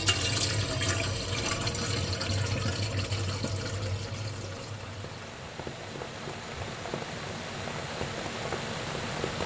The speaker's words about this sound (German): Den Teekessel werde ich jetzt auch noch mal befüllen.